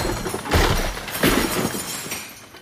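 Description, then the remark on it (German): Cider jugs, bowls, plates, pans, lard pots, water buckets and other household objects crash down in two heavy bursts of shattering and clattering, with broken pieces skittering and tinkling as the noise slowly dies away, leaving living room, kitchen and hallway a heap of rubble. No one speaks. “Ähnliches geschah mit den Mostkrügen, Schüsseln, Tellern, Pfannen, Schmalzhäfen, Wassereimern, Wassergölten und sonstigen beweglichen Gegenständen, sodass schließlich Stube, Küche und Hausflur einen einzigen Trümmerhaufen bildeten.”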